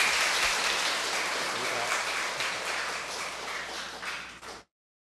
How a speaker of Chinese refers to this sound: 各位政府班长，各位年幼大德，咱今仔日真难得来邀请到吴前社长来甲咱开示，请各位以热烈的掌声欢迎吴前社长。